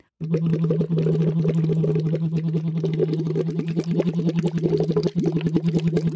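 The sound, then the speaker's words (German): Steady bubbling through a tube set in the middle of a half-filled vessel of water, blown while humming as a vocal-fold exercise, a rapid, continuous stream of small bursts over a sustained low hum from the voice, fairly loud, with no talking. “Hälfte mit Wasser, steckst den Schlauch, so mittig im Wasserbereich sollte dann platziert sein, schaust, dass dein Kinn im 90-Grad-Winkel zu deinem Hals ist, also einfach eine schöne, aufrechte Kopfhaltung und dann blubberst du einfach drauf los, so.”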